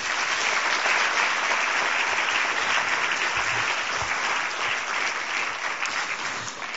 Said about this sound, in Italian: che vi prego di accogliere con un bel applauso.